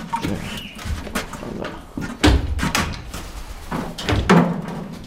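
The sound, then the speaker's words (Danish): Metallic clanks and rattles of a cage door, with scraping and shuffling between them as a zoo keeper climbs out of a cockatoo cage at Munkholm Zoo; several sharp knocks, no talking. “Og så kravler han ud af buret igen.”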